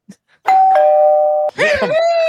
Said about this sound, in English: If you hear a doorbell and Mrs. Doubtfire saying hello, that means somebody else has joined the show.